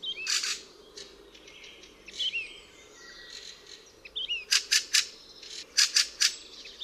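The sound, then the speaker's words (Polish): A fieldfare gives harsh, rasping call syllables, a series of identical crackling syllables, in quick bursts, the clearest ones in tight runs of three, loud, with faint chirps and a soft insect hum in the background. “Jego głos składa się z serii identycznych, trzeszczących sylab.”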